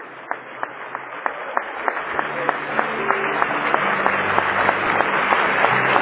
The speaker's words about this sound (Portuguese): Então aplauda o Senhor em homenagem a Ele. Celebre o seu nome com alegria no coração.